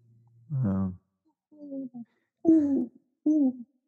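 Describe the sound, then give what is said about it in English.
A voice imitates a great horned owl, giving four low, breathy hoots in a slow, uneven rhythm with short pauses between them, fairly clear against a quiet background. “I woke up in the middle of the night the other night and I heard a great horned owl.”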